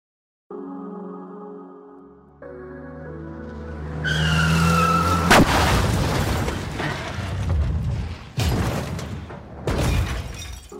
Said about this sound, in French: Un an avant cet épisode, en juin 1933, le couple a eu un accident de voiture. Lancé à toute vitesse sur la route, la voiture fait un tonneau et s'enflamme.